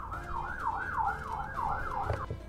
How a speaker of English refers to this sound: Okay, that was an ambulance that passed by.